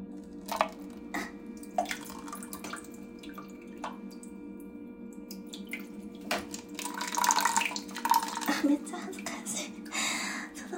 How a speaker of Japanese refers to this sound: コップを、紙コップをちょっとこう、おしっこが出るであろうあたりに持っていって、はい、この状態でしてきます。